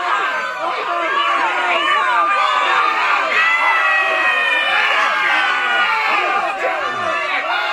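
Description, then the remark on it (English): A dense crowd screams in terror, many high-pitched voices overlapping in a loud, continuous wall of shrieks and wails that rise and fall without a break. “This is Terrified Crowd.”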